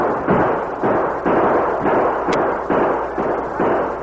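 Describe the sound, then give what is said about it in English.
Gunfire from a fort: a steady run of loud, booming shots, about eight or nine in four seconds, each a broad burst that rings out into the next, with no voices in between. “Close the gates. Open fire.”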